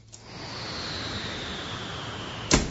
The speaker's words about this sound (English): What's the weather like? Wet and windy. Cool, rainy, and windy. Windy? It's windy? Yes, listen.